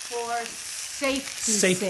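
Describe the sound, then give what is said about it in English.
Four chicken breasts seasoned with salt and pepper sizzle skin side down in a hot pan as they brown, giving off smoke and steam, with a steady, loud crackling hiss throughout, while brief bursts of a voice rise over the frying. “You want a lot of noise and you want smoke and steam coming up because we're going to brown them skin side down.”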